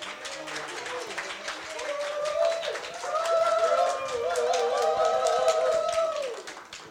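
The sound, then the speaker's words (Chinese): An audience claps steadily for several seconds to welcome a person about to give a testimony, a dense patter of hands, while voices sound over the applause and carry on as it continues. “那我们就用掌声来欢迎。”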